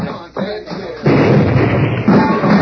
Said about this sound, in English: That did it. Blasted the fort wide open.